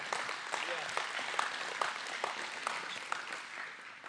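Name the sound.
audience clapping hands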